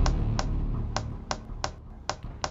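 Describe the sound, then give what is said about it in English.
Nervous fingers tap on a chair about seven times at an uneven, restless pace. Each tap is a short, crisp knock over a low, steady hum, with no talking. “But I'm not the one tapping my fingers on the chair.”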